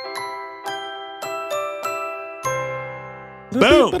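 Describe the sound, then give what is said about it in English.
A bright ding-dong chime rings out in a quick melodic run of about six bell-like notes, each ringing briefly before the next, and then a voice cuts in at the end. “Boom. Ding dong.”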